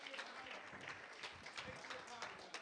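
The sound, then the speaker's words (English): An audience at a religious gathering breaks into a steady round of applause for the Lord, dense crackling clapping that holds at an even, fairly loud level throughout, with voices faintly mixed into the noise. “Would you give the Lord a round of applause here today?”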